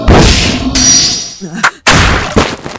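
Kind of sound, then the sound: sound effect, gunshot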